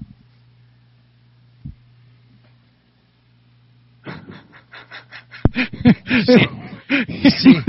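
A fat pug sitting on someone's chest pants in quick, rhythmic breaths that grow louder and more wheezy and snorty, after a few seconds of quiet low hum.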